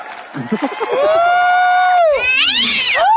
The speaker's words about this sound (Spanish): Y gatito ese, ¿cómo Satanás, se llama? Satanás. Satanás, saluda al niño.